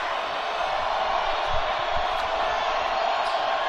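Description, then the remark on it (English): A loud, steady roar from an unruly basketball arena crowd during the third quarter of a game, a dense wash of shouting with no clear voices, broken only by a couple of dull low thuds. “I think the crowd's getting a little unruly right now. They are not shy about the crowd noise, which sounds more like just white noise overall.”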